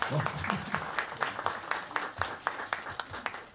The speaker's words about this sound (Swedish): Bara den som skrev alla de här texterna, det är han som sitter och pratar. Så ni kan ge en extra applåd till honom.